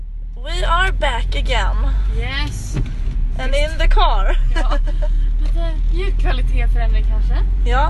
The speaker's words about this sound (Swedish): Ja, nu kör pappas bil, den låter jättemycket också.